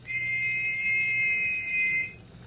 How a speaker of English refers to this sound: Well, he said, on the river, and to listen for another whistle like this one.